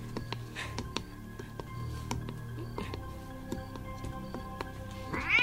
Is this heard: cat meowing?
yes